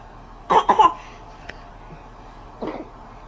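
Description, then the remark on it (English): A pair of quick coughs, followed about two seconds later by a single softer cough. “Cough.”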